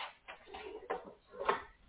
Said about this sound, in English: So hold on a minute, I'm opening up the door here.